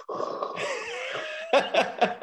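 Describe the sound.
A voice imitates heavy breathing: a long, raspy, wheezing breath followed by four quick, rhythmic huffing pants.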